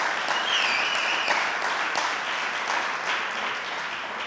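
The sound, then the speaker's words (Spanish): A crowd applauds steadily, a dense wash of many hands clapping at an even level for several seconds, with a faint whistle or cheer briefly rising early on. The applause is given to Jesus. “Un aplauso a Jesús.”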